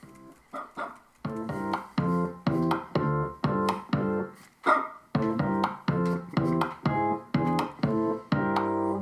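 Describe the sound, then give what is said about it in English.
Synthetic dog barks pitched like musical notes repeat in a steady, funky rhythm in a music track, roughly two per second, loud, forming a bouncy melodic pattern with no voices. “Yeah, I didn't know if they were barks or synthetic barks, but... They're synthetic.”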